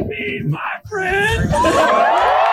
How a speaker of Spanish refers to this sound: Pues ahora ya terminó los 40 días. Mira cómo lo vitorearon. Ahí está como la gente le está aplaudiendo, le echa porras, los seguidores, ya cuando terminó de comerlos.